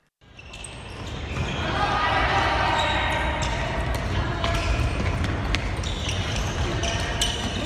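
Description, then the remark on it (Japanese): A handball thumps repeatedly on an indoor court amid a busy, echoing gym din, with sharp shoe squeaks and players' shouts, standing for high school boys' handball in Aichi, Japan, in an FM Aichi radio spot. “高校男子ハンドボール部数。”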